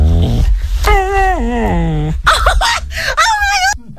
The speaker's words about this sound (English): But she's caught the moment where the dog has tried to copy her and say, I love you back. See if you believe the dog... is saying I love you or just yawning like I suspect. This is what it sounds like.